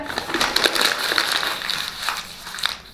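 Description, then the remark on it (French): A sheet of paper, already a little creased, is crumpled, giving a steady run of crisp, crackling rustles with sharp bright snaps scattered through it, with no voices. “L'image est tout froissée, tout chiffonnée.”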